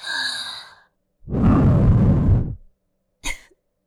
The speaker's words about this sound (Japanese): ああ、体ビクってなった。そんなに良かったんですか？僕の吐息。